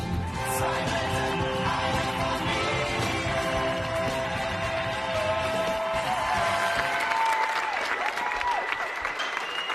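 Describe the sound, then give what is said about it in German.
Sustained, dense applause from a musical theatre audience as the performers finish on stage, steady and loud throughout, with a few faint whistles or cheers rising above the clapping toward the end. “Hier klatschen alle.”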